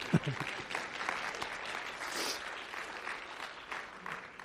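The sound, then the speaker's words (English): An audience in a church applauds steadily, a dense patter of many hands clapping at moderate volume, filling the room for several seconds with a few voices faintly mixed in. “That's a good place to clap.”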